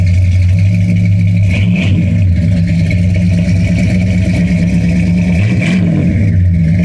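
The big engine of a red 1965 Cadillac DeVille convertible rumbles loudly and steadily, with two quick revs that rise and fall, one near the start and one near the end.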